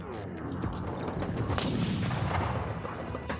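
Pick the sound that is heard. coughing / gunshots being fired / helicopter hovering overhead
gunshots being fired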